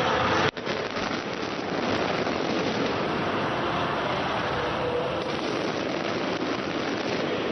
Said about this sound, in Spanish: Así sonaban los fuegos artificiales en la capital de España en torno a las 11 de la noche, cuando terminaban los festejos en el Santiago Bernabéu.